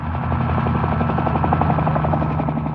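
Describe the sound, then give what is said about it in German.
A helicopter flies by at an airport, its rotor thumping in a steady rapid pulse over a dense engine drone that stays loud and constant throughout. “Also, wir sind jetzt auf der obersten Dachterrasse, wir sehen den Tower von hier, wir sehen der DHL-Flugzeuge, wir sehen sogar einen Hubschrauber.”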